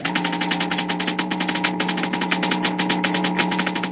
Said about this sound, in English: The crackling comes from a model atom smasher, similar to large models used in treating deep-seated cancer and sterilizing foods and drugs.